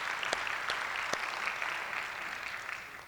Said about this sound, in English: Let's clap for them again. They're doing a heck of a job out here.